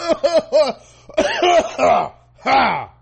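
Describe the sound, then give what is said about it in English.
A man lets out exaggerated, theatrical fake coughs, loud: three quick voiced hacks, a ragged cluster after a short pause, then one last drawn-out cough. “You ever say something so racist you just start coughing?”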